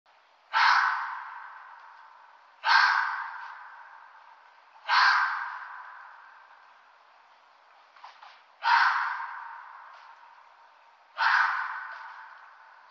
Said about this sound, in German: Die Rüden, also die männlichen Tiere, suchen sich eine Partnerin, die Fee, das weibliche Tier. Das heisere Bellen von Füchsen ist besonders häufig zu dieser Zeit zu hören.